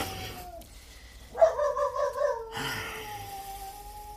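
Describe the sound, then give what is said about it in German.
A dog barks at night in one short, yelping burst lasting about a second, set against a quiet background with a faint steady hum before and after. “Dieses Hundevieh, das kläfft einen ja in Grund und Boden hinein.”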